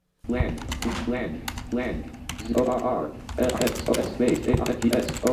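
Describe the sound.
A fast synthetic screen-reader voice chatters continuously while keys clatter in quick, irregular bursts on a computer keyboard, both clear; a blind woman is typing with the help of the screen reader.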